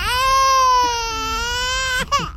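A baby cries in one long, high, wavering wail that slowly falls in pitch, then breaks into a couple of short choked sobs at the end. No talking over it.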